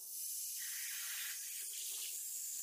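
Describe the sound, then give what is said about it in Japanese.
Shower water runs in a steady, hissing spray, wetting a person's back, continuous for a few seconds at moderate level with no voices present. “まずは背中を濡らしていきます。温度の方はさっきシャワー使ったばかりなので大丈夫だと思いますけど、熱かったら言ってくださいね。”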